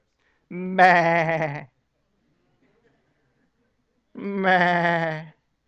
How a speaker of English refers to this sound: Sam said, "What's that?" Saul goes, "Oh no, stupid sheep."